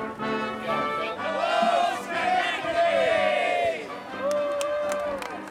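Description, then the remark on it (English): A large crowd waiting at the dock in Schenectady as a boat pulls in shouts and cheers together, many overlapping voices rising and falling in loud, continuous waves for several seconds. “A crowd was waiting, and a band was playing.”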